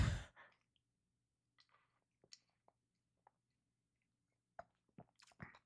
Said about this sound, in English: Excuse me. Let me get a drink of water. I need not water, soda, because I need caffeine.